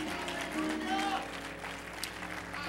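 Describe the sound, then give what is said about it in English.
A crowd claps and applauds steadily for a few seconds as a hand clap of praise to God, a dense, continuous wash of hand claps with some voices calling out underneath. “And that's worth giving God a hand clap of praise.”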